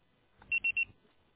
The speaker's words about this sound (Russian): Пожалуйста, попробуйте перезвонить позднее, или оставьте сообщение после звукового сигнала.